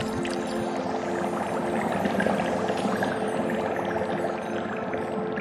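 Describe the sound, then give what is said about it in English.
Liquid with a few soap bubbles added sloshes and swirls steadily as it is stirred in a cauldron, a continuous watery churning with no voices, at an even moderate level throughout. “Finally, add in a few soap bubbles and give your cauldron a good stir.”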